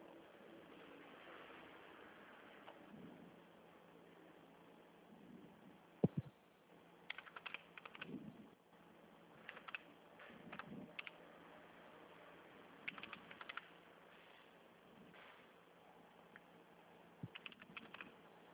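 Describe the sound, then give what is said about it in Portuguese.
Computer keyboard typing in irregular bursts of quick clicks with short pauses between, fairly quiet over a low steady hum. Nobody speaks. “Então, dita, esse é um teclado.”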